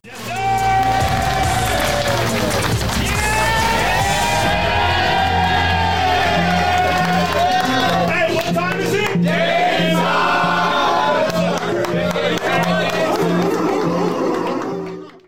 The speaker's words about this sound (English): He says a few words, and then Dame gets interviewed, and then he comes in. And when he walks in, the locker room explodes.